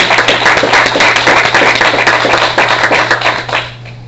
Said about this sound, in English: So let's give our pastor some, show him some real love with a big hand clap of praise.